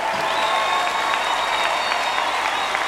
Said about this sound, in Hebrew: מחיאות כפיים לגדול המפיקים, יוחי ריסמן.